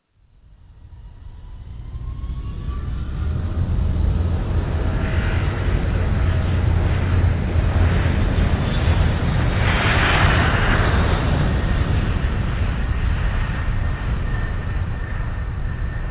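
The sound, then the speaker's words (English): An airplane takes off: a deep engine roar swells over the first couple of seconds, then holds loud and steady with a rushing, whooshing quality throughout. No one speaks. “Flight 12, you're clear for takeoff.”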